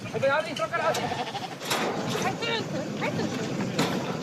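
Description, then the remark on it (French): A flock of sheep bleats in overlapping, wavering cries over a busy outdoor background as the animals are driven down together from mountain pastures with the help of three border collies. “C'est tellement génial de faire descendre les moutons des alpages.”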